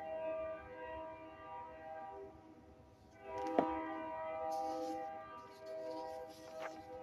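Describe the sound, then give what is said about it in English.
A train horn blares in long, sustained tones as the train rumbles past, the steady rolling noise of the cars continuing underneath throughout. “I know this is, what, the second train since this broadcast started?”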